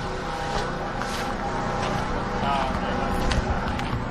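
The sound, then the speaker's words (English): A generator hums steadily at the Bakersfield road race course while waiting for the women's finish, a constant motorized drone with a low, buzzing tone that holds at an even loudness throughout, with faint wind-like noise mixed in. “Hear the generator humming away.”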